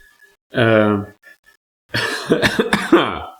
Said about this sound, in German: Jetzt hab ich gehustet, jetzt nehme ich noch einen Schluck.